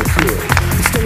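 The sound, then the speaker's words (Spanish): A crowd applauds steadily, a dense wash of many hands clapping at once, fairly loud and even throughout, with faint voices mixed beneath the clapping. “Aplauso, aplauso fuerte para él.”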